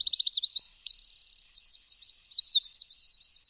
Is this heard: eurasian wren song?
yes